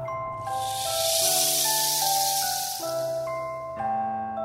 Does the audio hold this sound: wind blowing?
yes